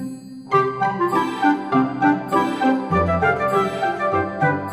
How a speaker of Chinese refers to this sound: 听到圣诞节钟声敲响后，新年就在眼前了。